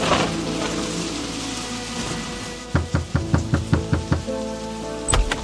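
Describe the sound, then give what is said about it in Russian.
Steady rain hisses throughout on a rainy evening, with a series of about eight loud, evenly spaced knocks on a door midway and a heavier thud near the end. “И вот сегодня, дождливым вечером, послышался сильный стук в дверь.”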